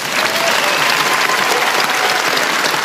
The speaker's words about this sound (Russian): Под ваши аплодисменты, конечно.